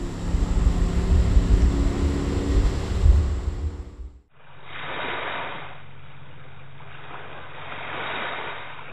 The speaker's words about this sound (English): If you guessed river, stream, lake, and estuary, you are right. Those were sounds from the James River in Lynchburg, a small stream in Montgomery County, a boat on Clater Lake in Pulaski County, and waves in the Chesapeake Bay